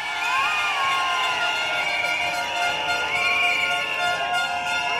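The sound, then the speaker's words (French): A large crowd of medical interns protesting in the street in France against Marisol Touraine's reform project, shouting and chanting together, a dense continuous roar of many voices with rising yells, loud throughout. “Les internes, je vous entends crier.”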